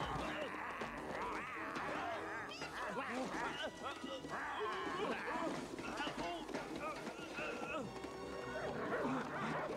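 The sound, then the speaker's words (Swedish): A dog barks and yips excitedly amid a busy, cluttered scene, its sharp calls mixing with voices and bustling activity throughout. “Så du tar parti för hunden”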